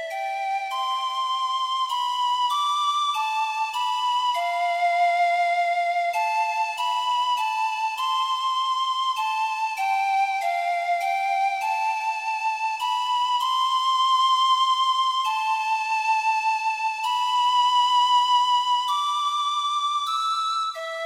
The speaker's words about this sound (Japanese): シュリは首に下げていた笛を手に取り、静かに吹き始めた。今日一日の嬉しかったこと、楽しかったこと、すべてを笛の音に乗せて。